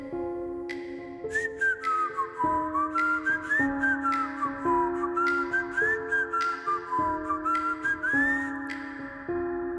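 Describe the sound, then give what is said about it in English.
A person whistles an old-timey, lilting, wavering melody over a steady sustained musical backing, the tune rising and falling in smooth glides for the whole stretch, clear. The whistling seems to come from the front yard. “I look around and I'm definitely awake and I definitely can hear somebody whistling a song.”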